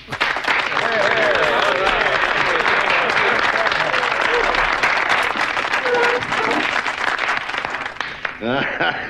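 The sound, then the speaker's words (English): A crowd applauds loudly and steadily for Sergeant Hulka for about eight seconds, with scattered cheers and whoops rising above the clapping, before it thins out and a voice briefly speaks at the end. “I think that we owe a big round of applause to our newest, bestest buddy and big toe, Sergeant Hulka.”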